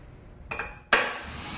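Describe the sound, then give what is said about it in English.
A light metallic tap followed by one sharp, ringing strike of a hammer on a center punch against metal, with the clang decaying quickly and no talking. “Let me see if we could just center punch right through that.”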